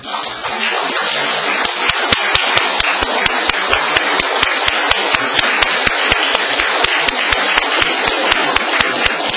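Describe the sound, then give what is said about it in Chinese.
A crowd at a Mother's Day service applauds the mothers standing up, clapping loudly for about nine seconds. The clapping is dense and steady with a regular, almost rhythmic beat running through it. No one speaks. “今天是母亲节，让我们一起来向每一位母亲表示我们最诚挚的祝贺，请所有的母亲站起来，我们大家一起鼓掌。”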